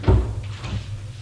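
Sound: elevator door opening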